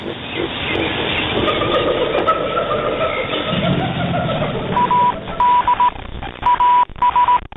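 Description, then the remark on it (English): A dense, rumbling ship-like drone with a faint sustained tone fills the first half, then loud Morse code beeps cut through in rhythmic short and long bursts over the low noise. “We got Morse code, we got ships.”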